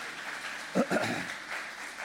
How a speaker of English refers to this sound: That was wonderful applause at the end there. Well done.